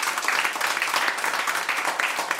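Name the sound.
audience applause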